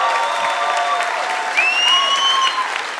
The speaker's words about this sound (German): Komm, ein Applaus